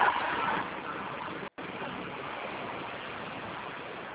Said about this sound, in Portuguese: Passando um carro barulhento aqui, não deu pra ouvir nada. Oi. Oi. Ó, passou um carro aqui, não deu pra me te ouvir.